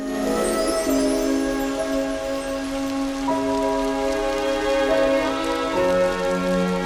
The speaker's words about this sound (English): Breathing heavily, he hangs his head as the rain beats down on the dark street.